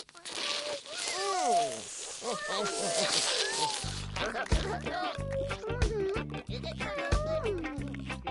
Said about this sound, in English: Look, you forgot to turn the hose off. And the little black cat doesn't like water.